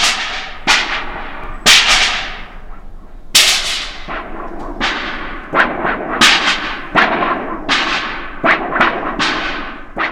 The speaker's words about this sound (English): And thin sheets of metal that produce almost a thunderclap type of sound.